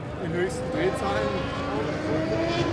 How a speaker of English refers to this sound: Vintage Indy 500 cars roared by on the racetrack.